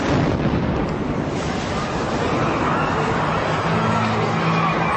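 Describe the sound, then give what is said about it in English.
A bomb explodes near the Boston Marathon finish line on Boylston Street, Boston, at about 2:50 in the afternoon. Its loud, roaring, rumbling aftermath fills the whole stretch, dense, with crowd noise and scattered voices churning beneath it. “An explosion near the finish line.”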